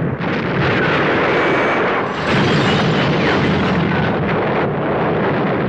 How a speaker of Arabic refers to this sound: وفجأة حصل ما لم يكن في الحسبان، في منطقة قريبة من حلبان تنقلب السيارة وتتزحرج مرة تلو أخرى.